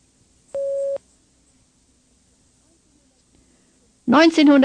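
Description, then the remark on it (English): A single loud, steady mid-pitched beep, the prompt tone in a German language exercise signalling the learner to say numbers as years in German, lasts under half a second, followed by about three seconds of silence before a voice starts speaking. “Speak when you hear the beep.”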